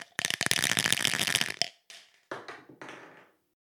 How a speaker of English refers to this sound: Right, let's roll the dice.